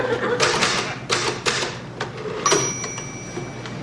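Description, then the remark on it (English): Rapid mechanical clacking of typewriter keys in uneven bursts as someone touch-types, followed by a ringing bell-like tone as the carriage returns, moderately loud. “Who's typing?”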